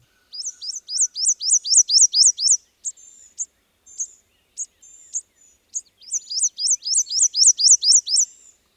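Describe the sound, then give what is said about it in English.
A prothonotary warbler sings two bursts of loud, ringing, evenly spaced upslurred notes, about eight each, with softer scattered chirps between them; clear, with no voices. “And you get bodacious bird bragging rights if you recognized first the prothonotary warbler”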